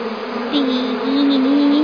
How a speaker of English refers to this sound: That was close. Bees.